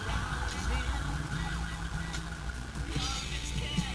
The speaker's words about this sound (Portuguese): O cara só ligou a sirene pra poder passar no farol vermelho.